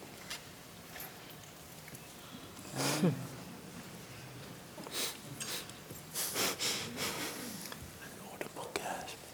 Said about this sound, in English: and audible gasp